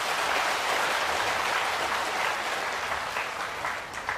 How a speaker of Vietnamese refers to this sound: Hãy cho một tràng vỗ tay thật lớn nào.